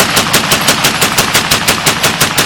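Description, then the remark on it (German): A German MG-08 machine gun, the water-cooled, recoil-operated gun used by the German Empire's machine-gun detachments in World War I, fires a sustained, rapid burst of evenly spaced, sharp cracks, about six shots per second, loud and steady throughout with no voices. “Im Ersten Weltkrieg stellte das Deutsche Reich Maschinengewehrabteilungen mit dem MG-08 auf.”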